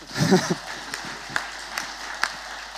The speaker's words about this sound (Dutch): Kom op, even een applaus mensen. Ja.